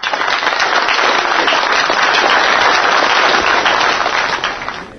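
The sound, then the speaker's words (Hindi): Loud, sustained applause from a large crowd, a dense roar of many hands clapping at once that holds steady for several seconds before starting to fade at the end, with no voices. “इसके बाद तालियों की गड़गड़ाहट के बीच गीतांजलि जी उठी।”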